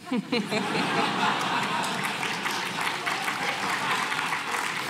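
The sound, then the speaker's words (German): An audience breaks into sustained applause at the speaker's joke that the laws of Vienna were broken, a dense, steady patter of many hands clapping at even loudness, with a few faint chuckles near the start and no one speaking. “Sie klatschen, weil offensichtlich die Gesetze von Wien sind gebrochen worden.”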